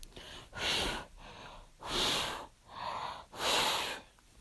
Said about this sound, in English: Feel my cool breath on the nape of your neck. Does that feel nice? Just keep breathing in and out.